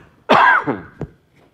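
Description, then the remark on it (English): A single cough from a presenter during a coding demo, followed by a couple of short throat-clearing rasps, loud and abrupt, with no talking around it. “Excuse me, I'm afraid I'm going to cough.”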